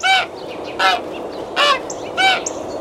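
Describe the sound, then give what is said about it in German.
Loud, harsh magpie calls from a nest hidden high in a church tower ring out four times at a steady, evenly spaced rhythm, each one a short raspy squawk with a faint hiss between them and no voices. “Nur ihr lautes Geschrei verriet sie.”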